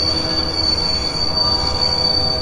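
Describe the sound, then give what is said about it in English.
A train halting violently: its wheels squeal loudly and steadily against the rails, a sustained high-pitched screech over a deep rumbling roar, like heavy braking, with no voices. “All thoughts of the suitcase vanish as the train halts violently, and Mr.”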